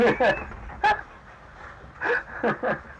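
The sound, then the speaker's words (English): A dog gives a handful of short, high whimpers and yelps in separate bursts, a few close together, moderately loud against quiet, faint background noise. “That dog will have a hard time with me.”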